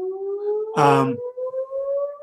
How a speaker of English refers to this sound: Got a fire whistle going off if you're hearing that over here in Coulomb, South Dakota.